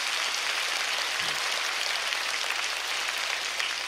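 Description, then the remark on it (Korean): A church audience at a New Year special early-morning prayer service claps steadily for several seconds to encourage its pastors, the applause a dense, even wash of many hands without pauses or swells, and no one speaks over it. “우리 수고하시는 목회자들을 위해서 또한 큰 박수로 격려합니다.”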